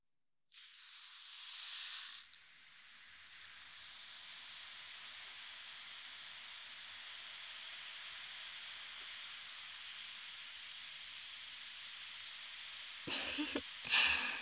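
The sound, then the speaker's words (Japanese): A loud burst of bright hissing as a carbonating powder drops into hot water for a foot bath, then a steady, softer fizzing that carries on for many seconds, ending with a few small splashes or movements. “炭酸のシュワシュワが足に伝わってきましたか？”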